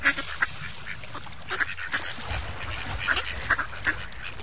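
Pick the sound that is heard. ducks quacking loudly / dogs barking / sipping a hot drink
ducks quacking loudly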